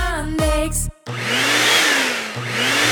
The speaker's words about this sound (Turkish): Çok para verdiniz diye bu elektrik süpürgesinden çok şey beklemeyin.